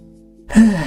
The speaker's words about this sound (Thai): ทำไมหายใจมันดังฟีฟีสงสัยเชื้อคงจะเข้าปอดละ